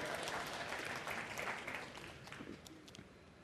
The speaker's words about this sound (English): Yeah, round of applause.